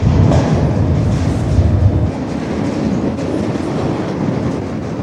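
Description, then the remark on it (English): A freight train rolls past in the morning, a loud, steady rumble of wheels on rails with a continuous rhythmic clatter. The heavy low end eases slightly after the first couple of seconds. “In the morning, after several anxious hours of waiting, I caught my first freight train.”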